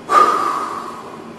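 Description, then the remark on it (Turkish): A single long, deep breath drawn in with a rough, raspy hiss, a person imitating the labored gasp of someone dying; it starts sharply and slowly fades over about a second. “Sekerattan da birkaç tane bulunduğum için bir nefes alıyorlar ki ben yapamam.”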